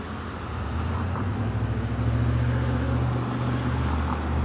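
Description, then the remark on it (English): Steady road traffic rumble fills the scene, a continuous low engine drone with a broad wash of hiss and no voices, holding a constant moderate loudness throughout. “And the silence almost everywhere in the world now is traffic.”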